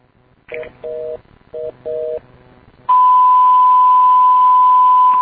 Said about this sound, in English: Some weird shit before a milliwatt. I don't understand what that is either, by the way. Yeah, it sounds like it's about to do like a stutter dial tone or something, and then it goes into a milliwatt.